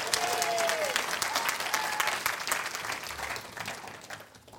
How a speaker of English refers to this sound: We need to thank Chris this morning. He's doing lights, he's doing sound, he's doing torches on the platform. He's doing everything this morning. So give Chris a big round of applause.